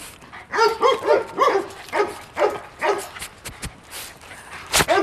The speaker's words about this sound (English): You're a beautiful boy, aren't you? Yeah, you know it. He's just a fantastic little dog, this one. Really, really good.